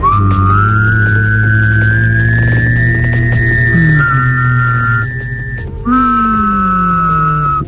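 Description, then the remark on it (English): A voice produces a high, whistle-like hum over a low droning tone, the pitch gliding slowly like a radio being tuned, with a brief break before it resumes. Fairly loud. “Yeah, put the hum really hot so it's the same pitch as a whistle.”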